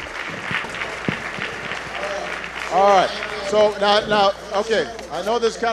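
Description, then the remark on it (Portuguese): A noisy crowd at a meeting claps and cheers steadily, with loud voices shouting over the applause; strong vocal whoops rise in the second half, overlapping in bursts. “Eu sei que a multidão aqui é muito barulhenta, mas então eu vou pedir a todos que, em primeiro lugar, sentem-se.”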